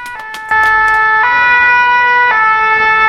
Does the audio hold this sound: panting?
no